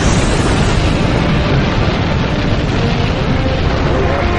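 A deep, continuous roar of a spacecraft's rocket engines at liftoff, loud, with heavy rumbling bass and hissing noise that holds steady throughout, with no voices.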